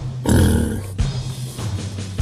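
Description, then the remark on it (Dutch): A pig grunts loudly up close in a rough, low burst, followed by a softer, lingering snorting rumble. “en het varken.”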